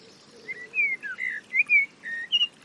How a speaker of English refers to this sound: larger cousin of the familiar song thrush, mistle thrush is an early songster and one which we can listen out for in late winter from the tops of tall trees. It sounds a little bit like another cousin, the ubiquitous but equally wonderful blackbird.